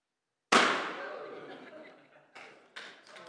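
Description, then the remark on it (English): A balloon is popped with a pin, a loud pop that rings out and echoes, followed about two seconds later by two quicker, quieter pops of more balloons. “Here, take some more balloons. You can hold on to those. I'll take the pin.”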